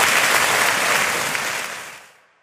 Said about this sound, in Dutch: Applaus.